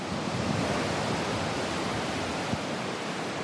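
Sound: waves on a beach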